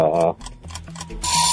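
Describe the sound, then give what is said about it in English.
A quiz timer ticks in a quick, steady run of short clicks, bracketed by brief tonal sounds at the start and a bright, sustained high-pitched tone at the end. “Oh, there's the timer.”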